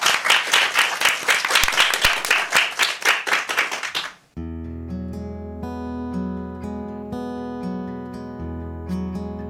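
An audience applauds with loud, dense clapping for about four seconds, then it drops away and a melodic music track begins with steady tones and light percussive accents.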